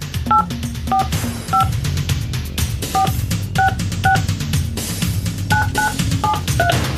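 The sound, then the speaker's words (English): A phone number is dialed in the studio of the Q104 Radio Show: about a dozen short, bright keypad tones beep in quick, uneven succession over a steady, fairly loud music bed. “Let's make the phone call this morning.”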